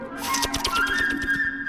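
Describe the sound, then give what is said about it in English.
A quick, rising whistle depicts a bird flying up into a tree, with a steady high tone over a rapid run of light, evenly spaced taps. It is moderately loud, with no talking. “Bird flying.”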